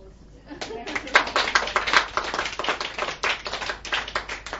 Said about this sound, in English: Also, a big round of applause.